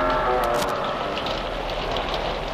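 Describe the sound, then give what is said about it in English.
Heavy rain pours down steadily on rocks, a dense, continuous hiss of drops pounding on the hard surface, loud with no pauses or voices. “And then the rains came and soaked and drenched and pounded on the rocks, breaking, tearing, wearing them down.”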